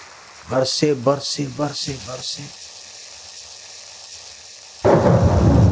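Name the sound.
thunder with heavy rain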